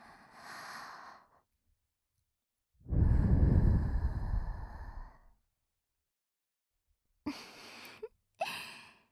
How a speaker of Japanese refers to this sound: 少しは満足していただけましたか？こんな近くから吐息をもらうなんて思いもしなかったでしょう。 でも、こういうのがくすぐったいんですよね。